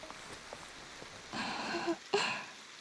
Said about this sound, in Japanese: 嬉しいな。このまま、ずっと雨止まなくてもいいな、なんて考えちゃいます。